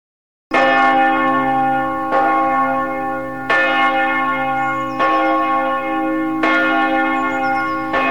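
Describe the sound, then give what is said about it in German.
Loud, resonant bells of Meißen Cathedral in Meißen peal continuously, with fresh strikes roughly every one and a half seconds layering over a long ringing hum. No voices are present. “Läuten die Glocken des Doms zu Meißen.”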